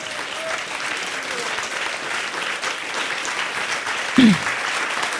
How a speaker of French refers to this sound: On les applaudit encore une fois. Bravo!